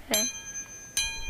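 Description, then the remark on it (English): A spoon hanging on a string is struck twice, each hit giving a bright metallic ring with steady high overtones that lingers and fades. The second strike comes about a second after the first. “That sounds like a spoon vibrating because I have it hung on the end of a string, right?”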